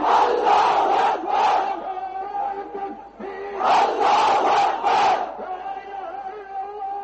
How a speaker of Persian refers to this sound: اینچنین در دکه پایتخت بنگلادش هزاران نفر در نزد مسجد جامع شعار افکندند.